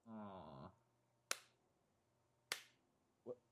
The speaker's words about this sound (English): What? Are you clapping? That was a slow clap. I thought it was a slow slap.